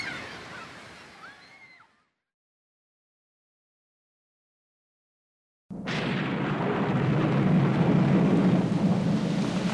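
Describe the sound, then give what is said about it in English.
After a brief stretch of calls and then silence, a heavy rain shower bursts in abruptly, a loud, steady hiss of downpour with a deep rolling thunder rumble beneath it. “Oh dear, it's raining.”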